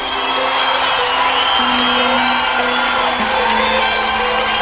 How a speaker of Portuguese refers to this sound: Quero ver o grito dos apaixonados aí.